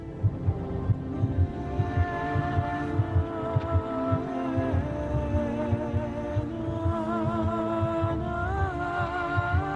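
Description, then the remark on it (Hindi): A fetal heartbeat on an ultrasound monitor, a fast, steady whooshing throb repeating several times a second, with sustained tonal humming layered over it and no talking. “और ये भी तुम्हारे बच्चे के दिल की धड़कन।”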